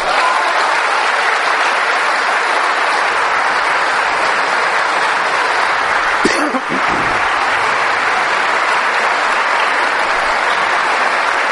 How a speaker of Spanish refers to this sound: A ver, un aplauso al Señor.